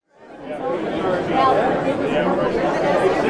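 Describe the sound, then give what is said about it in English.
A dense murmur of many overlapping voices from a crowd of more than 200 people fills the upstairs meeting room at the Best Western Bidarka Inn in Homer on a Tuesday afternoon. The murmur is steady and moderately loud, with no single speaker standing out as the crowd chatter swells in and holds. “A crowd of more than 200 people poured into the upstairs meeting room at Homer's Best Western Bidarka Inn Tuesday afternoon.”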